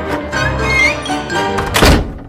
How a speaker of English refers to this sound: Gotta go. The concert hall doors are about to close.